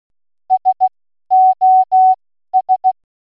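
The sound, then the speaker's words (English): A clear, steady electronic beep spells out SOS in Morse code: three quick pips, three longer held tones, then three quick pips again, with no other sound around them. “As you heard, that was three short tones for S, three long tones for O, and three short tones for S.”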